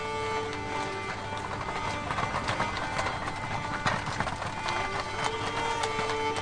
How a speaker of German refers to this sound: Ein nebliger Oktobertag im Jahre 1380. Über den St. Gotthard-Pass schiebt sich ein ungewöhnlicher Tross. Ein großes Fuhrwerk mit Maultieren und Reisewagen. Wo die Straße besonders steil ist, geht es nur im Schritttempo voran.